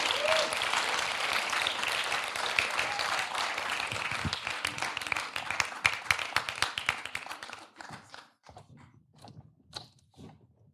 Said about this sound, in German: Und deswegen, wie wäre es, wenn wir einen fetten Applaus geben für die 5 Leute, die jetzt auf die Bühne kommen werden.